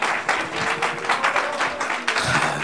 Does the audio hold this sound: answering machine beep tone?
no